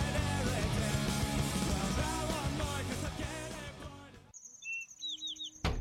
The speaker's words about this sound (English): Honey, another bird hit the window. Birds hitting a window can cause severe head injuries and broken bones. Birds cannot see glass. They can only see a tree's reflection in a window.